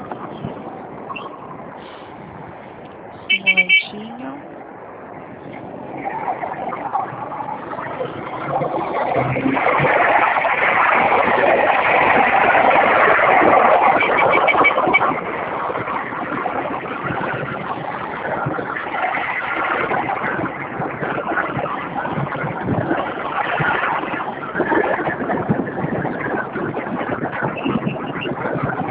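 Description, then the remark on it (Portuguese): A motorcycle engine drones steadily while riding, with heavy wind-like rumble. It swells louder for a few seconds midway, then settles into a constant hum. A brief click sounds near the start. “Pode ir vendo aí que eu estou em cima da moto, mas eu estou te ouvindo.”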